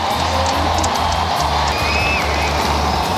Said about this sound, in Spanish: Y estamos atentos porque hay aplausos ahora mismo en la Plaza de San Pedro y parece que hay fumata blanca a esta hora de la tarde, 6:08.